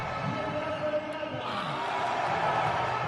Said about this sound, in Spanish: Y como veis, ahí hay aplausos, sí, antes del partido, de hay aplausos.